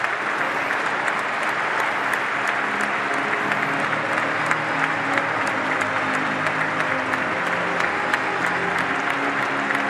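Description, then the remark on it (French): Sustained applause from a large stadium crowd at the Stade Marcel Picot, a minute of applause in tribute to Nicolas Holweck before kickoff: a dense, steady wash of clapping that holds at an even loudness for the full ten seconds, with scattered sharper claps standing out and no voices. “Une minute d'applaudissement en hommage à Nicolas Holweck.”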